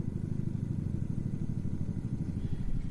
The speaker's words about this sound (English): You hear the helicopter, Mr. Producer? Do you or don't you? Hold on, let me hold up the... Everybody listen. Hear it?